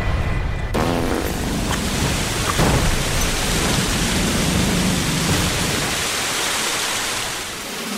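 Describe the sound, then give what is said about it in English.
A loud, explosive gush of erupting water bursts in after a brief quiet moment, roaring as a dense, steady torrent for several seconds before easing slightly at the end. “Stand back. There's an explosion of water coming.”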